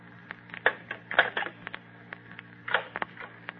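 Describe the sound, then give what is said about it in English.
A telephone receiver is hung up with a brisk series of plastic clicks and clattering knocks over a few seconds, set against a faint steady hum, with no talking. “Hang up now, and I'll run him down to Worth in a jiffy.”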